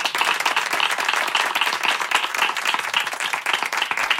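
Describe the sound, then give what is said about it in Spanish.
Steady audience applause welcoming a guest from the El Mundo Today newsroom onto the show, a dense wash of many hands clapping at an even loudness for several seconds, with no voices standing out above it. “¡Un aplauso para él!”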